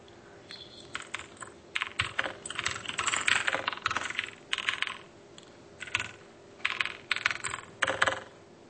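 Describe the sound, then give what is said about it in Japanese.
Rapid clicking of keys on a computer keyboard, typed in quick bursts with short pauses, clear, with no one speaking. “キーボードの音が聞こえてるよ。”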